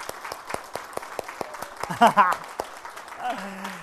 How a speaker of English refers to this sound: You know why I said that? Because there was an awkward silence of him coming up. So I thought we could just fill it with applause.